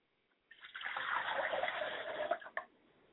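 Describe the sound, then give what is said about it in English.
Water is poured steadily into a glass as a ritual offering for about two seconds, with a bright, splashing rush that rises slightly in pitch, ending with a couple of soft drips. Fairly quiet, with no voices. “Pour a glass of water to my Mother's spirit, and I say Ashe.”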